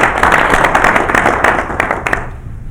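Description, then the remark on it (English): An audience at a Board of Trustees meeting bursts into steady applause welcoming members of the press, many hands clapping in a dense, continuous wash that stays loud before thinning out and fading toward the end. “We'll give you guys a round of applause.”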